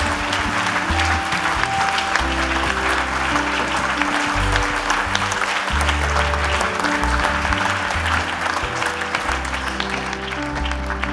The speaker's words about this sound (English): Est-ce qu'on peut les applaudir bien fort? Can we give them a hand?